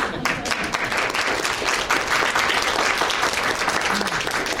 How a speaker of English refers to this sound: So with that, now you can applaud.